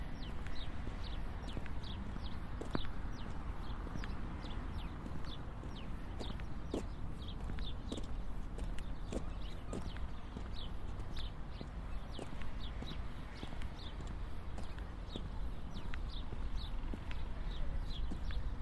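Busy outdoor ambience at the train station forecourt in Weimar, with a steady wash of background noise and a long run of crisp, regular footsteps throughout. No one speaks.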